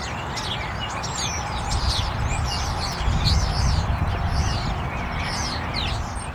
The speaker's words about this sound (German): Wenn der Frühling kommt, ist es einfach notwendig, dass die Vögel auf sich aufmerksam machen. Jedenfalls ist das ein bisschen deprimierend, die Vögel ankämpfen zu hören gegen den Lärm der Autobahn.